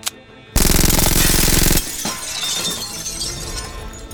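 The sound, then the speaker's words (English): A large glass airlock window shatters with a sudden, loud crash that roars for about a second, followed by scattered shards tinkling and clattering as they settle. “Back away from the glass.”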